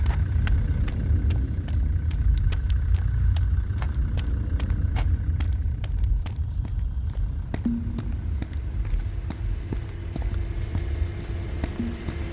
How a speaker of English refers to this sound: Cut the engine.